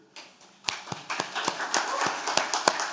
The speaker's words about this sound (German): Darf ich mal um Handzeichen bitten? Wir haben Brasilianer unter uns. Alle anderen bitte einen Applaus.